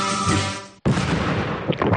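A loud explosion sound effect: after a humming roar and a split-second drop to silence, a booming blast erupts and rumbles on with crackling debris noise. No voices.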